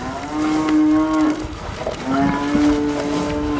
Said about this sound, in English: Meanwhile, Hematech's calves are busy munching away at the feeding trough, unaware that they're paving the way for bigger and more powerful genetic manipulations.